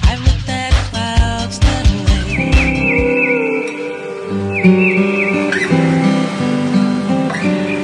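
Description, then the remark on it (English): An upbeat instrumental track with a driving beat, while high, swooping bird-like chirps and whistles flit repeatedly over the music in its middle section. “Or is it instrumental with all those birds and things?”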